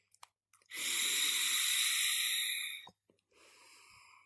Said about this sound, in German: Sehr gut, und ich dampfe jetzt noch einmal.